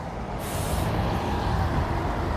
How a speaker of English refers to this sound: See, that's the kind of bus it's supposed to be on the street. When we got the orange one, I'm just saying. See that? That's the one. Not that orange one we saw.